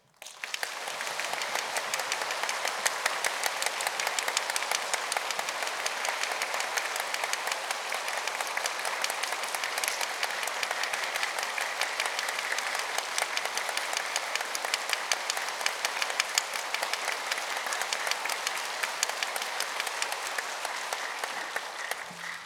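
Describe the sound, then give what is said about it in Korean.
A crowd does a 'jangja' clap as instructed, clapping steadily for over twenty seconds, a dense, even patter of many hands at a constant loud level with no voices standing out. “다 장자 박수 합니다.”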